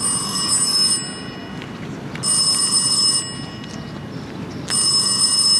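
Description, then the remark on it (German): A telephone rings in three bright, bell-like bursts of about a second each, separated by short pauses, heard clearly over a steady low background hum with no voices. “Während wir still zu Abend aßen, ertönte das Klingeln des Telefons.”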